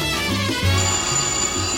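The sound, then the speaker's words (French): A telephone rings with a steady electronic tone over low, stepped musical notes, fairly loud, with no one speaking. “Le téléphone.”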